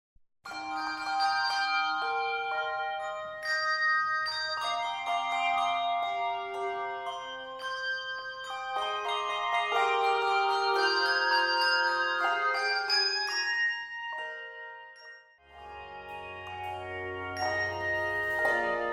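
A handbell ensemble plays a slow, melodic piece, overlapping bell tones ringing and sustaining in rich chords at a steady, moderate loudness, with no voices.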